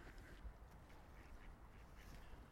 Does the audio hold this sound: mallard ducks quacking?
yes